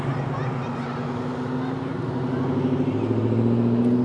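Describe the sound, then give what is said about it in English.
A big, shiny black and silver Harley motorcycle carrying two people rumbles loudly, its deep throb holding steady before the pitch climbs as it revs and pulls past. “Two people, very black and silver and shiny. It's a Harley.”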